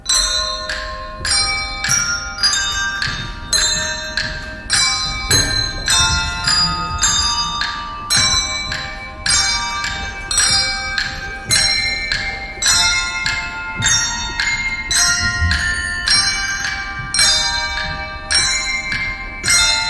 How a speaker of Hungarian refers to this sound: Végezetül pedig hallgassunk meg egy részletet a vizsai csengettyűs gyerekek előadásából.